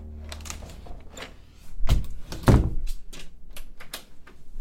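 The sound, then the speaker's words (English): A door swings shut with two heavy, low thuds about half a second apart, surrounded by faint scuffing and rustling movement, as people leave and close it at the end of an investigation. “The door is closed, and now the portal is closed.”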